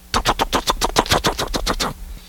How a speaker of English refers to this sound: And some time passes. And eventually Randus gets a loud knock on his door. It is very frequent.